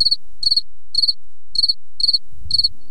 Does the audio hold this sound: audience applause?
no